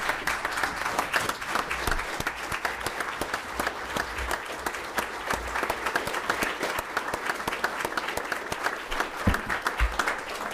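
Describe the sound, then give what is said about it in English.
An audience breaks into steady applause for Senator Murkowski after her remarks, dense overlapping claps forming a continuous crackling wash that holds at an even loudness for about ten seconds, with no voices on top. “I think that applause is because I really did keep my comments to 15 minutes.”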